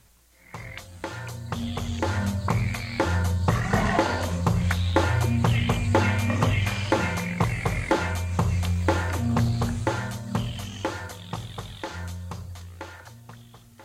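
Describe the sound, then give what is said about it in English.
A dense chorus of Cope's gray tree frogs and eastern gray tree frogs trilling in wetlands in southern Illinois in early spring, many overlapping pulsed calls repeating steadily and fairly loud throughout, with a low droning undertone and no voices. “These are Cope's tree frogs and eastern gray tree frogs.”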